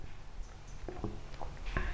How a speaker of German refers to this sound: Ich habe nur dieses am Fenster, dieses Plattern gehört. Dachte so, was ist denn das jetzt? Läuft hier irgendwo Wasser? Nein, es regnet.